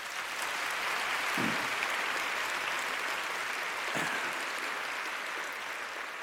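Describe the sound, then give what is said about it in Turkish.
Steady audience applause at a concert with a symphony orchestra, a dense wash of many hands clapping at an even, sustained level with no voices rising above it, continuing for several seconds. “Önce ayaklarınıza sağlık, sonra alkışlayan ellerinize sağlık.”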